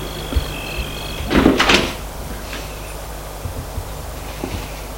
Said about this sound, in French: Ils entrent, ils ferment la porte.